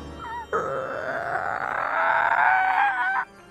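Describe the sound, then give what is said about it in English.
A voice imitates an old door squeaking open: one long, drawn-out creaking groan lasting nearly three seconds, its pitch wavering and slowly rising before it stops abruptly. “At the old haunted house, we slowly opened the old squeaky door.”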